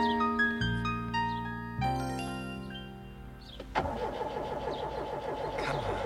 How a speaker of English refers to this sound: I'm trying, Robin, but the car won't start. Oh, I'll bet it's the distributor again. Come on, baby, come on. I should have taken it into the shop weeks ago.